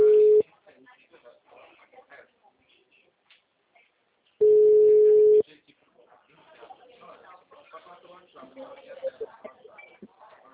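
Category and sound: signal or alarm, telephone ringing tone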